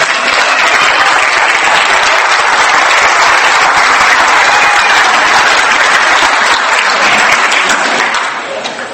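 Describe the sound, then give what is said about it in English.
Loud, sustained applause from a large audience standing up to give themselves a hand, a dense wash of many hands clapping steadily for about eight seconds before it starts to fade at the end. “Why don't you all stand up and give yourselves a hand?”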